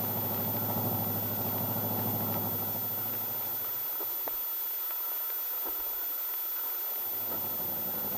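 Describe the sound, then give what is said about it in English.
A new car's engine idles with a steady, low droning rumble for a few seconds, then dies away, leaving only a faint hiss and a soft click. “And thanks for bringing us home in your nice new car.”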